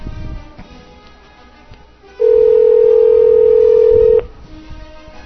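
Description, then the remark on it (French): A telephone dial tone during a live call placed from a radio show: a single steady, mid-low hum that sounds loudly for about two seconds, then cuts off abruptly, with faint line noise before and after. “C'est où c'est que t'appelles, toi, là?”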